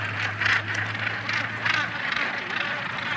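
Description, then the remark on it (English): A dense, continuous chorus of hundreds of birds on a path calling at once, a busy overlapping chatter of squawks and honking cries, swelling in brief pulses over a steady low hum. “Up until now, there's been an occasional bird beside the path. Now they're on it. Hundreds of them.”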